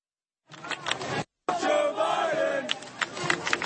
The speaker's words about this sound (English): Just play some of the football, some of the baseball, and then him getting booed at the 9/11 Memorial. Here it is.